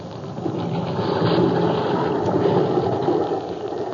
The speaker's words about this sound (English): The schooner Spindrift is still fighting her way through a half gale in the Pacific. Black, ugly clouds are scudding overhead, and the angry waves rush at the little craft as though to engulf her.